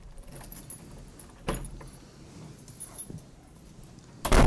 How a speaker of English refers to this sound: As you shut the front door behind us